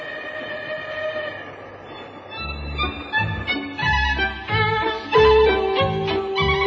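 A train rumbles along the rails with a rhythmic clatter of wheels that grows louder after a couple of seconds, heavy low thumps repeating steadily, with a sustained horn-like tone above.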